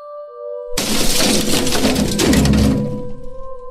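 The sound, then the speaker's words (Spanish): A sudden loud crash of several objects falling to the floor together in a bathroom, with dense clattering and rattling that lasts about two seconds before fading into a faint, steady hum. “Esta vez era el sonido de varias cosas cayendo al suelo al mismo tiempo, pero ahora desde mi cuarto de baño.”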